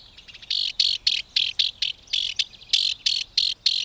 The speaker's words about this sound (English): That cocked tail, twitching sharply as the house wren scolds, puts an exclamation point on the wren's perky voice and attitude.